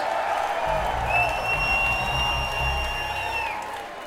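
Audience applause fills the space, a steady wash of clapping with some cheering and a high whistle rising above the crowd, holding fairly loud before tapering off slightly at the end.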